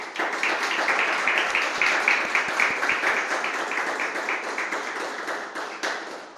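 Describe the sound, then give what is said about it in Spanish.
A crowd applauds an artist presenting a new exhibition, steadily for several seconds, dense overlapping claps forming a bright, crackling wash that stays loud throughout and tapers slightly toward the end, with no voices over it. “también vamos a descubrir un fantástico mundo en la nueva exposición de nuestro querido Pablo Torres, para el que pido un enorme y muy cariñoso aplauso.”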